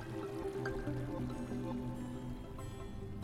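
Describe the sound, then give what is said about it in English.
A river flows steadily, a continuous wash of rushing, gurgling water that holds an even loudness throughout, with no voices over it. “Guys, look, it's the river. It's still here.”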